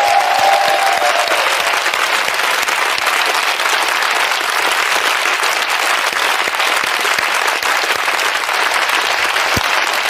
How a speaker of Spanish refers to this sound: Ahí está, ahora sí, ese aplauso para Verónica Forqué.